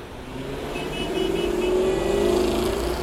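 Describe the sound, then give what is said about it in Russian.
A car engine rumbles steadily and grows a little louder as the vehicle draws near, bouncing over rough ground for a few metres before stopping, a low motor drone with a faint whine above it and no voices. Seven young Russian soldiers are riding in the car. “Груда металла пропрыгала еще несколько метров и остановилась рядом со мной.”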